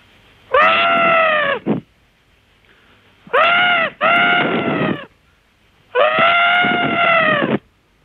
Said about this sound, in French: le cri de la tourterelle. Mais attention, il ne s'agit pas du cri du pigeon, avec lequel on nous confond souvent. Je ne peux pas vous montrer quel est ce cri du pigeon, car je n'en suis pas un. Alors, il s'agit bien de la tourterelle. Écoutez bien.